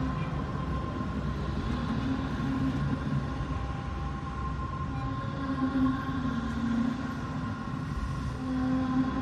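A metro train rumbles steadily at a metro station platform, a continuous roar of wheels and motors with a faint high whine running through it, no talk.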